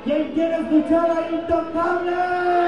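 A concert crowd at a show in Juarez, Mexico, including people from El Paso, Texas, cheers in a steady, dense roar, with a sustained high pitched shout ringing through it. The noise holds at an even, fairly loud level for about three seconds, with no clear talk.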